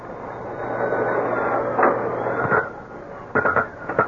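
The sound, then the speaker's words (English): A very fine tattoo drill in a tattoo workshop, being used to tattoo a large pink garlic sausage, whirs steadily with a thin high whine over a low hum. It is broken by a few sharper rattling bursts toward the end. No one speaks. “With a very fine drill, he was tattooing a large, pink garlic sausage.”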